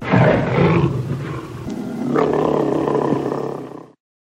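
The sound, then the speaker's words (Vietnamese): A tiger roars twice in close succession, each call long, loud and rumbling, the second more sustained before cutting off abruptly. No speech is present. “Cọp tuyệt vọng kêu cứu.”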